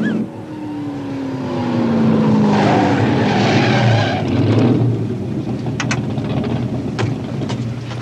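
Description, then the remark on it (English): The powerful engine of a red Ferrari roars loudly, its pitch sliding downward as the cars slow and pull over, then settling into a steady idling rumble with no one speaking. “You want us to pull over and be blessed by a black priest in a red Ferrari?”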